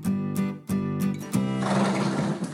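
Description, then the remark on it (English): A horse neighs loudly, a whinny that pulses in quick bursts before trailing into a breathy, rasping snort. No one speaks. “What do horses do?”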